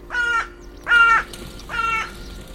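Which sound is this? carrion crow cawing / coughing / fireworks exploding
carrion crow cawing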